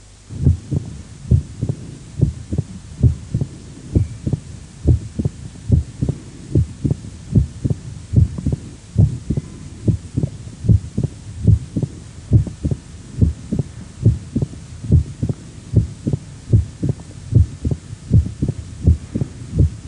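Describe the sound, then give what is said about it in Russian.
Heartbeat heard through a stethoscope at the apex of a patient with mitral stenosis, with a loud, snapping first heart sound. Beats repeat steadily and evenly for the whole stretch over a faint low hum, with no voices. “Прослушайте хлопающий первый тон на верхушке у больного с митральным стенозом.”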